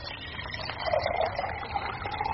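A steady stream of water is emptied out of a teapot after warming the pot, splashing into a vessel below, a continuous gurgling rush lasting a couple of seconds with no voices.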